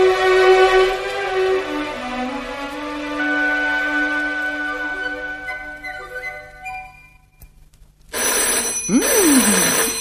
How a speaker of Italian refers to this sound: telefono? Pronto?